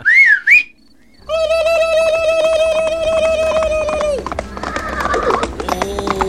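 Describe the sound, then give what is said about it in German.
A horse named Lady, being ridden, lets out a long, loud, high-pitched whinny, then hooves clop and clatter unevenly. A short swooping whistle comes just before the neigh. “Kleiner Fuchs, da bist du ja! Er reitet auf meiner Lady!”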